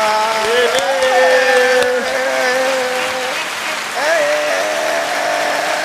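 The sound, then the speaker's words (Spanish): Studio audience applause on a late-night show, a dense, steady clatter of clapping for several seconds, with sustained cheering and whooping voices rising and falling over it, greeting a guest with a new book. “Así que un aplauso.”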